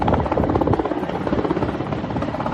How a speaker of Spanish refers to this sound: Es el sonido de un helicóptero descargando agua sobre el campo de refugiados de Moria, en la isla griega de Lesbos, que horas antes había sido arrasado por un incendio.